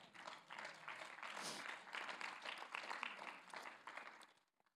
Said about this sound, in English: Somebody say amen. Go ahead and clap to that.